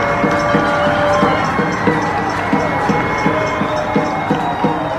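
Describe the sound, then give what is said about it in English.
A crowd of people in Silver Lake, Los Angeles, cheering on medical staff, cheers and shouts continuously while pots and pans are banged in rapid, repeated metallic clatter, with whistles and clanging layered over a loud, steady din. “People in Silver Lake just screaming, banging their pots and pans, just trying to show love and cheer up the neighborhood.”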